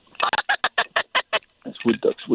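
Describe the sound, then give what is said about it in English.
Wood duck calls ring out fairly loud: a quick run of about ten short, evenly spaced squeaky notes, then a few longer, lower, drawn-out calls. “Wood ducks. A lot of woodies and model ducks around.”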